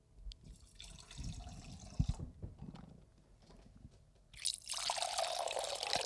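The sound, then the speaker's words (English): Boda brick boxed wine pours fast from its nozzle into a glass, filling it full, starting with low gurgles and splashes, then becoming a steady, bright hissing stream that fills the last seconds. No one speaks. “Now, once again, we poured a full glass, so we're going to be drinking.”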